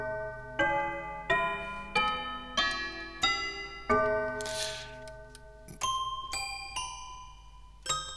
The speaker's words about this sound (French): c'est ce qu'ils appellent un toy piano. Donc là, c'est un peu les jouets en fait. Hein. Alors c'est assez drôle parce que quand on le veut vraiment dans les sons très graves, On a un peu le côté cloche, on va dire.